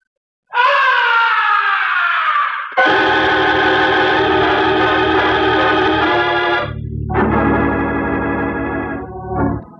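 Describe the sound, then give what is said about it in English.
A loud, piercing scream from high up above the stage of an opera house holds for several seconds, sliding slightly in pitch, then breaks briefly and resumes, with a low rumbling noise underneath. “From way up in the heights of the stage, the opera house was pierced with a blood-curdling scream.”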